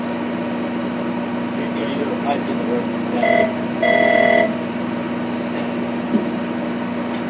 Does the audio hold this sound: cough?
no